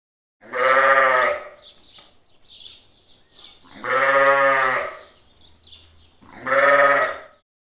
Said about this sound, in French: I can hear a sheep.